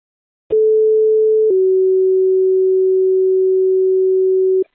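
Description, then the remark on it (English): A two-tone radio dispatch page: a steady electronic tone holds for about a second, then drops to a lower pitch and sustains for roughly three seconds before cutting off cleanly. Loud and clear, no voices. “Do you still want tones for that 65?”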